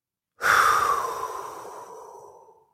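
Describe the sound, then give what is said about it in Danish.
A single deep, airy breath, drawn in through the nose and let out through the mouth, rushing in strongly and then slowly tapering off over about two seconds, with no talking around it. “Og så selvfølgelig lige starte med at tage en dyb vejrtrækning, dyb indånding ind gennem næsen, ud gennem munden.”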